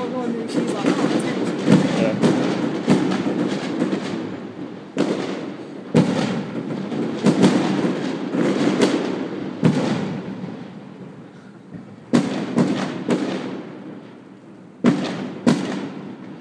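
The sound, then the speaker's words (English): Loud central heating banging away, with a run of sharp, irregular knocks and thuds over a constant rumbling, clattering din that swells and drops between the bangs. “Very loud central heating.”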